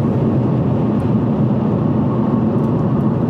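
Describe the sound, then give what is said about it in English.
A loud, steady low rumble of a heavy truck passing on the road, a broad droning roar that holds constant throughout with no voices. “Sorry, we were getting passed by a truck and I was cranky.”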